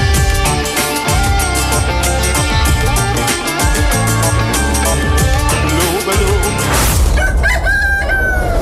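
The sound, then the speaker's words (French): Loud, dense music plays for several seconds, then a rooster crows once near the end, a bright, drawn-out call that rises and falls over the fading music. “Le coq revient chanter demain matin sur LN Radio.”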